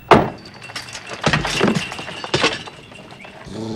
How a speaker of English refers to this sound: He opens the back door of the car.